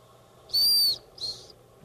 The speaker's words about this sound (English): What's this part? Well, here we go. Oh, that is a... whistle. Want to try it? Sure. Just lift it up.